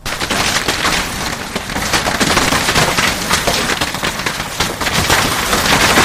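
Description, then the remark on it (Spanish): A sudden afternoon hailstorm in San Vitero: large hailstones pelt down hard and steadily, a dense, loud clatter of countless rapid impacts that continues without pause throughout, with no voices present. “Ayer por la tarde, una granizada caía de manera súbita sobre San Vitero.”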